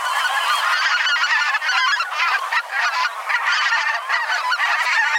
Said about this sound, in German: Okay, wir hören uns nochmal den Sound an von der Blässgans.